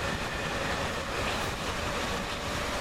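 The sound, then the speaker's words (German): A U-Bahn subway train bound for Farmsen rumbles steadily as it pulls out, a constant loud roar of wheels and motor with a faint high whine, no voices. “Klunk, klunk. Ausfahring U-Bahn.”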